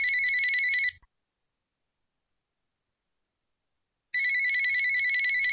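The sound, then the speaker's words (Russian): A telephone that has just been switched on rings in two bursts of rapid electronic trilling, separated by about three seconds of silence. The ring is clear, with no voices present. “Простившись с Ольгой, Любовь Александровна хотела позвонить Наде, узнать, как там она, но только лишь успела включить телефон, как раздался звонок.”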